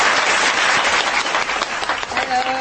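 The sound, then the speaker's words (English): A crowd claps steadily for a couple of seconds for porn star Sasha Starr, a dense, even patter of many hands at a consistently loud level with no voices over it. “Please applaud to Sasha Starr.”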